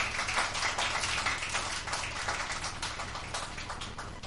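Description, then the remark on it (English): A large church audience applauding newly installed council members during a service, steadily, a dense wash of many hands clapping at once with no distinct individual claps, sustained for several seconds and fading slightly toward the end. “Let us give them a round of applause.”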